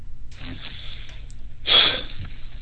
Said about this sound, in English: Hello? Hello? You going to breathe heavy? Yes. We got a heavy breather.